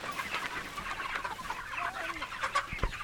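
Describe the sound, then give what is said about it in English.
Several chickens cluck and murmur in a steady, overlapping chatter as their coop is dragged about 10 feet onto fresh grass, with short soft calls scattered throughout and faint outdoor background noise. “They place a dolly under one side and arrange a rope around their bodies from the other, dragging the coop the 10 or so feet to get the chickens on their fresh grass.”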